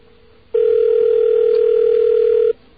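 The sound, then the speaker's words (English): A telephone dial tone, heard while calling the Long Island Railroad to ask about a possible strike, sounds as one loud, steady, mid-pitched hum lasting about two seconds, starting and stopping abruptly, with faint line noise before and after and no talking. “Calling the Long Island Railroad to find out if a strike is imminent in their opinion.”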